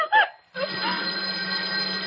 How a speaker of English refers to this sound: You, farmer, go answer the phone.